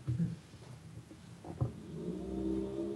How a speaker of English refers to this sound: As you hear his car pull away.